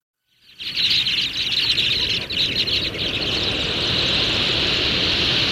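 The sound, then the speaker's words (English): A dense, continuous chorus of high, shrill sandpiper peeps fills the scene after a brief silent start, with a steady wash of surf-like noise rumbling underneath throughout. “There was your big hint, huh? Sandpiper.”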